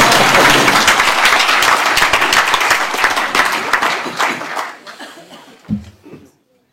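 Sustained applause from a roomful of people, dense and steady for several seconds before thinning out, with a few scattered claps and a brief murmur as it fades.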